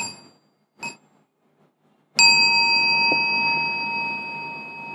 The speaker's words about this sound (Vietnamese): Lắng nghe tiếng chuông, mình chắp tay bút sen thật đẹp, chúng ta hồi hướng.